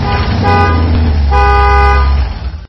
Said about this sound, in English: Karima's father hooted as he drove into the driveway.